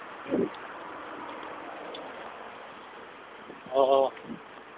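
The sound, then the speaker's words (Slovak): A soft, steady outdoor breeze hisses continuously under a slightly cloudy sky, with a couple of short bursts of a voice cutting in near the start and end. “A teraz je tak príjemné, fúka, pofúkuje vetrík.”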